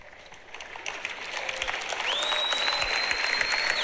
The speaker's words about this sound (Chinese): 各位，掌声有点小。